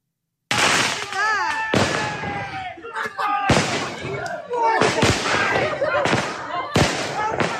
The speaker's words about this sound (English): Nationalists and locals have gathered outside the Islamic sect cult in Crewe and are launching fireworks.